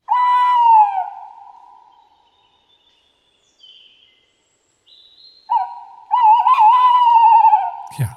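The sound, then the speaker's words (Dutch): A tawny owl hoots twice, clear: a long falling note, a pause, then a longer, quavering, wavering hoot that trails off, with no voices present. “Waarom broedt de bosuil niet ieder jaar?”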